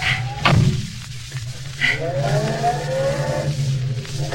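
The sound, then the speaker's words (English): A car door slams shut with a single heavy thud, then a lighter knock follows, all over the steady low hum of an idling engine. “Shut the door.”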